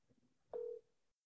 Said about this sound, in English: Can you hear the phone ring?